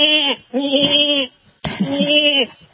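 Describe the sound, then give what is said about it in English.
A goat bleats loudly, three wavering, drawn-out calls in quick succession, the middle and last ones longer, with no talking over them. “The goats are, we've got these raisins all over in here, and I need to shovel the floor every once in a while.”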